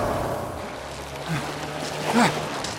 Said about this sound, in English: They hear Baines' motorcycle closing in on them.